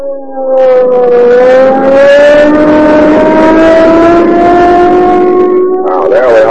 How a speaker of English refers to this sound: There we are. 80 miles an hour. Boy, I'll show you what police car performance means. We'll use every bit of power we can get out of that Rio Grande crack gasoline.